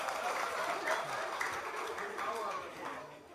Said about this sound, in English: Clap for him.